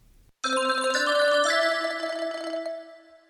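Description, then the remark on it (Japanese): A telephone ringing tone sounds alone while a phone call is being made, one sustained electronic ring lasting about three seconds, clear before fading slightly toward the end. “電話をする。 Making a phone call.”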